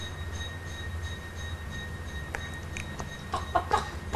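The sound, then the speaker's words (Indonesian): A rooster crows near the end, a short harmonic call rising over a steady low rumble and faint tonal hum, with no talking. “Kalau ini ayam apa nih? Mas mau berenang. Ayam jago. Ayam jago bunyinya gimana?”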